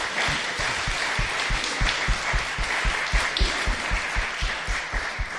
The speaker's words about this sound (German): Das war jetzt gleich für euch beide der Applaus.